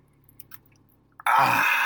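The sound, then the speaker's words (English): Soft mouth sounds and small clicks, then an abrupt loud, hissing slurp of someone sipping a drink after a toast, continuing steadily to the end. “Let's Monday crack morning Monday morning sip. Yeah, cheers.”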